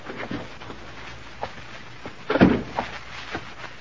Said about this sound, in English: I shrugged my way through the main door.